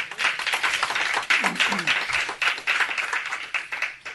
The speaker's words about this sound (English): So, give him a clap offering.